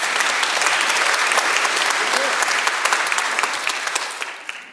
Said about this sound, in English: You chose to be here with us, and we appreciate that. So thank you for being here tonight. Applause for yourselves.